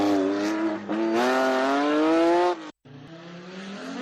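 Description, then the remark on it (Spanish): A loud rally car engine roars past, its pitch climbing and holding as it revs hard, then cuts off abruptly before a lower, rougher engine drone continues. “O Páramo é o mellor sitio para que pasen os coches de carreiras e se xunten os afeccionados.”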